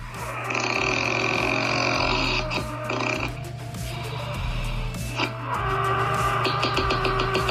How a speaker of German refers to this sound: Was für eine Schnarchnase.